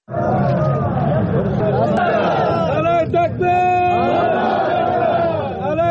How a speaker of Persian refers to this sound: در شهر شبرخان مرکز ولایت جوزجان هم گروهی از مردم نعره سر دادند و مخالفتشان را با جنگ ابراز کردند.